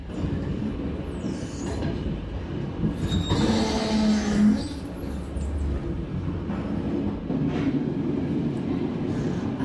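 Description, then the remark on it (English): A train to Oslo rumbles steadily along with a dense low roar, a brief tonal whine rising out of the noise partway through before the rolling clatter continues. No voices are heard. “Train to Oslo, track number 3”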